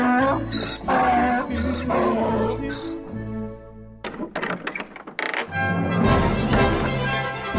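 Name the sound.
donkey braying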